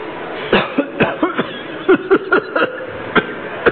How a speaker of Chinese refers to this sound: 哦，就一咳嗽就有血。 对呀、啊，做一个表演。